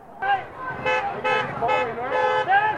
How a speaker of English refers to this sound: And you can hear by the horn beeps, there's a lot of people driving by that were in support of what these guys are doing.